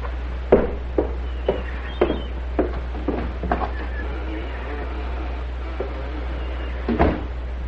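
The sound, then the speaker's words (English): A front door opening and closing: a run of sharp wooden clunks and rattles, irregularly spaced, ending in a firmer thud, over a steady low hum. “Go to the front door. It's open.”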